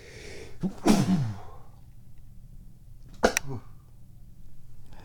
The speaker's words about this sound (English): And so, here we go. I'm about to sneeze.